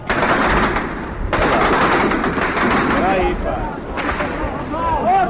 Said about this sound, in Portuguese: Há, portanto, tiros, os soldados preparam novamente as suas posições.